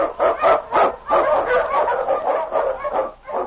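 Excited husky sled dogs, led by the Eskimo lead dog King, bark and yip in a rapid, steady string of loud calls while blazing a trail through storm and snow in the Yukon, running continuously with no one talking.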